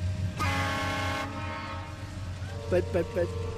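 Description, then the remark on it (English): A railroad crossing signal at the railroad tracks in Salinas' Chinatown rings in a steady series of metallic dings over a low outdoor rumble, following an earlier long, loud tonal blast. “But there's that ring. These railroad tracks have defined Chinatown, which always seems to be on the wrong side of them.”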